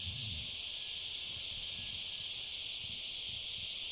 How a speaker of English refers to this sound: The cicadas are buzzing merrily. A day in midsummer on Ibiza has definitely begun. And here in this little clearing in the woods, I've got the cicadas on surround sound.